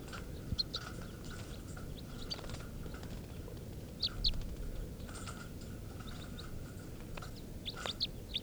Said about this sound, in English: And this is begging of bird 432.